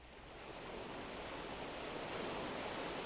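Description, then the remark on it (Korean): Steady ocean surf washes over the shore in a broad, continuous hiss, swelling slightly as a wave breaks and rolls in. No voices, just the roar of water on a beach. “파도의 저 소중하고 고결한 몸부림에 경의를 표한다.”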